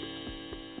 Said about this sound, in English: Oh, is it time to get up? Damn grandfather clock. It keeps going.